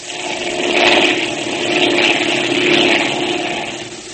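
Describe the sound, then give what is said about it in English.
A loud, steady airplane engine drones continuously in flight, its roar swelling and easing in slow waves about once a second, with no voices over it; the plane is nearly out of fuel and will soon have to land. “We're about out of gas, Mr. Tracy. Yes, so I see. And it won't be long before we have to land.”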